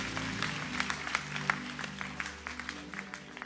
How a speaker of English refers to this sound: Let me see by hand if this message has blessed you. Can you clap your hands together for Jesus?